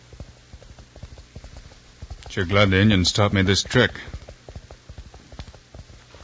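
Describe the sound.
Horse hooves gallop in a quick, steady rhythm on a dark trail, heard with an ear to the ground, moderately loud, while a man speaks briefly over them partway through.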